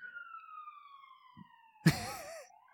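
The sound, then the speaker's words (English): A police siren holds a steady, slowly falling tone, then a sudden loud burst cuts in and the siren shifts into a rapid wavering wail that rises again at the end. “Waiting for this cop car to leave.”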